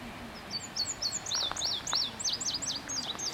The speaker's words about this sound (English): Anyway, I wanted to record those birds, not the Spanish.